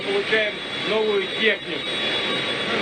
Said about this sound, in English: After the flight and over the noise of jet engines, Putin told reporters that the bomber is a great addition to the Russian Air Force.